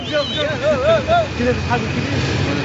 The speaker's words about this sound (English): the train's going past and you're not on it.